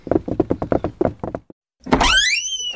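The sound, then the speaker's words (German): A quick run of about ten hollow knocks on the wooden door of a mill, fairly loud, then a single soft thud and a drawn-out creak as the door swings open. “So, jetzt klopfe ich erstmal an und hole uns das Mehl.”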